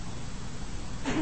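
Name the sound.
sneeze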